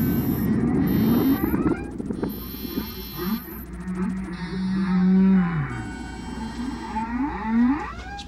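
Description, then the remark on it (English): Deep, drawn-out humpback whale song: moaning tones that rise and fall in long glides, with a few upward sweeps and low rumbles, sounding loud with no voices. “Transmissions are the songs sung by whales.”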